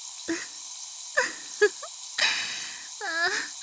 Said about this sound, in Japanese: どうですか、強炭酸の聞き心地は。